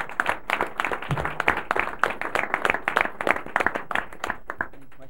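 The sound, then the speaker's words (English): Many people applauding at a Board of Trustees meeting, hands clapping in a dense, steady patter that holds for several seconds before thinning out at the end. “No plaque, but you got a good applause there.”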